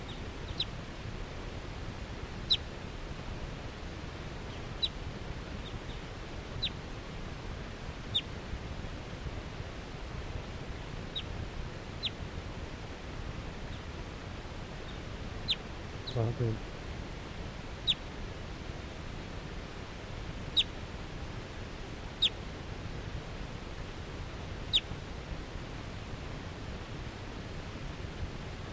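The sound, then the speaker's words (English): A wild female bird, coming down and looking at captive birds, gives short, sharp, high-pitched calls, repeated irregularly every second or few seconds, fairly faint over a steady rushing background noise, with no talking. “So according to calls of that wild female.”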